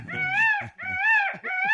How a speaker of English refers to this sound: Doggy. Very good. Dog. Yes, yeah, a dog that's whining.